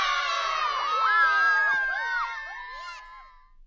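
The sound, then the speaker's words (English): A crowd of high, excited voices, a class of cats in the story Scaredy Cat Splat by Rob Scotton, cheers and shouts "Splat" together in one loud, sustained burst, pitches swooping up and down before fading slightly at the end. “Splat, they all cheered.”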